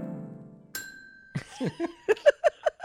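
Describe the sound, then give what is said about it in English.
A low hum gives way to one bright bell ding whose clear tone rings on for about half a second, followed by a run of short, rhythmic vocal bursts. “Where's the bell?”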